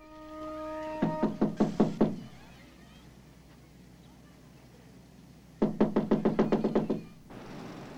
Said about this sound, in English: They head across the hotel grounds to a brick-built annex. The employee goes to knock on a door.